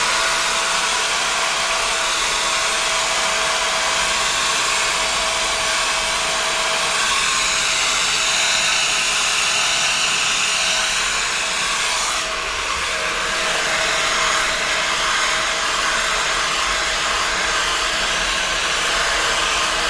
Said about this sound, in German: Und willst du jetzt föhnen, wenn ich die Fragen stelle?